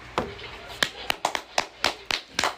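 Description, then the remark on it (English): A handful of sharp, loud claps land one after another at an uneven pace, sounding like a short burst of applause from a few hands with faint background murmur. “Hey, can we hit the”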